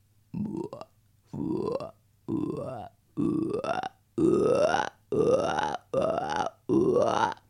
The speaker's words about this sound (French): La grenouille, évidemment.